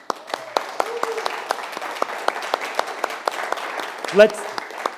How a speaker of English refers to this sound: Pastor's going to probably hear this. So let's give him a round of applause.